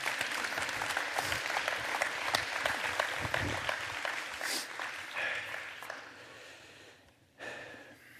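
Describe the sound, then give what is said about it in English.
An audience claps steadily for about seven seconds, a dense patter of many hands that thins and fades near the end. “Y'all give them a hand, please.”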